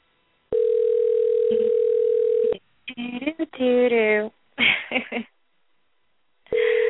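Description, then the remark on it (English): A steady, mid-pitched telephone dial tone as a show host phones a guest to start the show; it hums for about two seconds, breaks off for a short stretch of indistinct voice-like sounds, then the loud, even tone starts again. “So let's call her up right now and get her on the phone so we can just start the show.”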